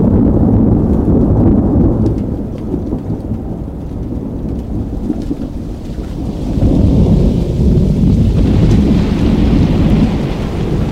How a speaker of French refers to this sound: Où ça se termine en tempête, enfin c'est l'orage